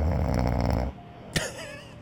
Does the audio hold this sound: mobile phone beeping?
no